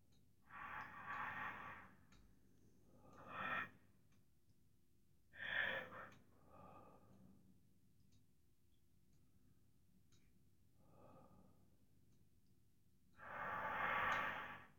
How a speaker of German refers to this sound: Das Atemgeräusch, das du eventuell hörst, erinnert dich immer bloß, ja, jetzt tief atmen.